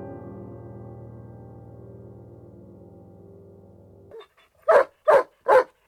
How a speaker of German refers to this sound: Jetzt kümmere sich doch mal einer um diesen Hund.